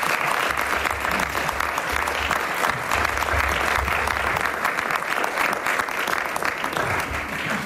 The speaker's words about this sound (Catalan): Un aplaudiment també per ells.